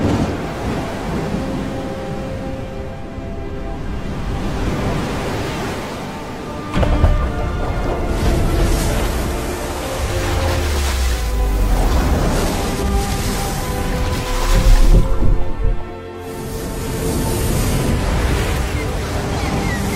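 Loud, roaring sea waves churn continuously as the sea parts after Moses strikes it with his staff, with deep rumbling surges swelling up twice, once midway and again near the end, like a great rush of water.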